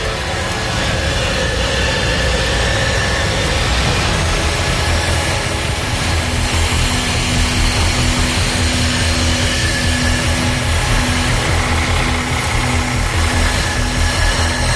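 A truck engine runs steadily and loudly throughout, a continuous low rumble with a droning hum and no change in pace, with no voices.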